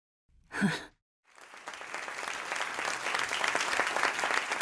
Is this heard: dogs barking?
no